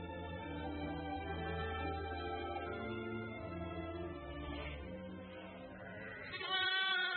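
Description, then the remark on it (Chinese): A lamb, being carried off by a lion, bleats in long, wavering, nasal cries that run together for several seconds, loud, rising into a sharper, higher call near the end. No one speaks. “哎呀，不好了，狮子，他抓走了我的一只小羊啊！”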